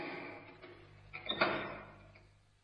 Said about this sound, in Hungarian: Ez a 8. Nyissa ki az ajtót. Igenis.